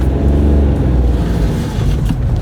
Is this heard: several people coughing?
no